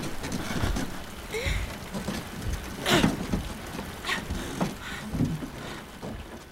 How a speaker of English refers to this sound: The rain made everything slick and hard to hold on to.